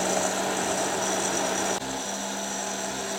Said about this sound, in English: Okay, we've resorted to an immersion blender. Hoping it works, otherwise I'm gonna have to go to the store.